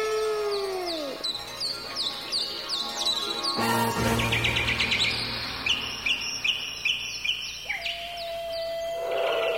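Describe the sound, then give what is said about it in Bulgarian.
Countless birds and animals gathered in front of a palace: a dense chorus of birds chirps and calls at once, quick repeated tweets and trills overlapping throughout, with a brief low rumble partway through and a steady whistle-like tone near the end. “За миг пред двореца се събраха безброй животни и птици.”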